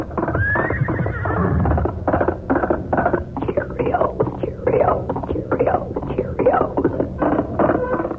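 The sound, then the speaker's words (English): A horse whinnies loudly at the start, then galloping hoofbeats pound in a fast, steady rhythm, prominent throughout: the galloping horse that announces the Lone Ranger, whose horse is Silver. “Yes, when you hear that galloping horse, it's the Lone Ranger.”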